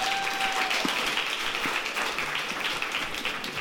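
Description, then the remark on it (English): A crowd claps together in a steady, dense wash of applause that holds at an even level for a few seconds, with a faint tone briefly audible early on. “Clap for her.”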